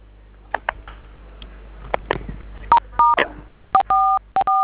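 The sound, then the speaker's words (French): A telephone keypad dials the code *440 *7: a few soft button clicks, then a quick, uneven series of loud dual-tone beeps, some short and some held a little longer, with no talking. “Étoile 440, étoile 7. Étoile 7. Composez ça sur un autre téléphone,”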